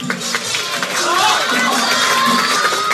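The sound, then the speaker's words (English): A dense, steady crowd roar, with overlapping voices shouting and cheering on a contestant who has frozen during a timed writing contest, sustained loudly throughout without a break. “The seconds are ticking by, so the crowd starts cheering him on.”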